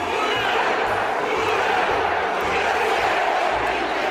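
A large stadium crowd roars and cheers continuously, a dense, loud wash of many voices with a rhythmic chant-like swell running through it.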